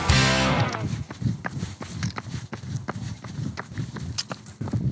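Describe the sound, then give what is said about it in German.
Heavy, thudding footsteps of a person walking late at night in Bethesda at a steady pace, each step a dull low impact with some scuffing, continuing for several seconds after a brief opening swell of tonal sound. “Zugegeben, es hört sich eher an wie ein Elefant, nicht wie eine Gazelle. Doch ich kann versichern, es ist weder das eine noch das andere.”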